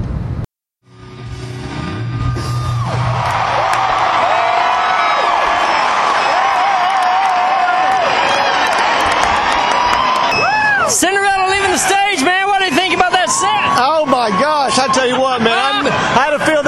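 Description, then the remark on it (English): A large concert crowd roars and cheers continuously after the band has said goodnight, with piercing whistles and shrill whoops rising over the steady wall of noise, building louder toward the end as people call for the band to come back for an encore. “We're waiting on them to come back for their encore.”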